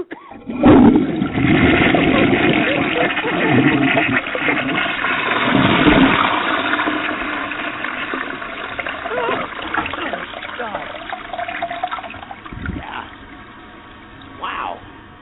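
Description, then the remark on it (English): A toilet flushes loudly: a powerful rushing surge of water for several seconds, then a gradual fade into gurgling and trickling as the bowl drains and refills. “Okay, that was one really really strong toilet flush there.”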